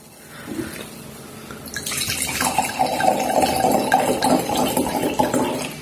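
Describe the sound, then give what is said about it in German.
Liquid pours from a bottle after a brief quiet moment, a steady splashing, gurgling stream that continues to the end without pause. No one speaks. “Flasche ist schon auf. Flasche ist offen.”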